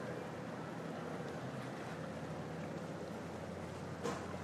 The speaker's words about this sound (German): Ein großes Containerschiff verlässt den Hafen.